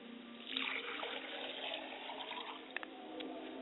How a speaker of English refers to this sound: I pour libation to the west, and I say, libation. I pour libations to the north, and I say, libation. And finally, I pour libation to the west, and I say, libation.